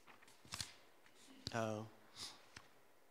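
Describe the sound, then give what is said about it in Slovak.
Papers rustle and shuffle in a few soft, brief bursts as the speaker sorts his papers, with a short hum from a voice midway and quiet around them. “Musím sa zorientovať v svojich papieroch.”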